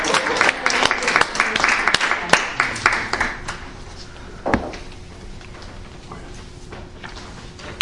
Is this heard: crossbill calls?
no